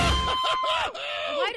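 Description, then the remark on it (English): A crowd of people yelling and whooping excitedly after an Independence Day speech, several voices overlapping in loud, rising and falling shouts for a brief, sustained burst. “Why do you feel like we have to yell after that?”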